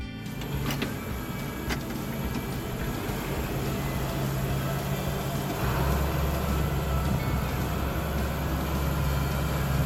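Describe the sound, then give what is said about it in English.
A tractor engine, left running for a few minutes after a check for leaks, runs at a steady idle, a continuous low, throbbing rumble with a faint mechanical whine and a couple of brief clicks early on. No one speaks. “Tractor's off and running.”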